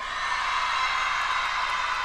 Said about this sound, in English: The 26-year-old Grammy winner walked the stage during her college graduation at Texas Southern University in Houston on Saturday. Listen to the crowd just go wild as she accepted her diploma.